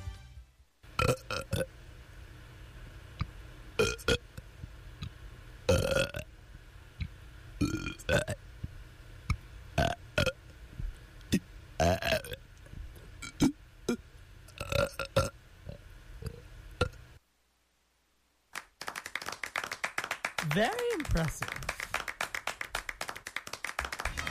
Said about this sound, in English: This is WONY Oneonta here to present the 33rd Best Burp Performance from Otsego County's 19th Biannual Burp Review, 1994.